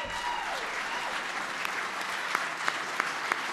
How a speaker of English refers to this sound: Can everybody please stand and give a rousing applause to our Medal of Freedom winners?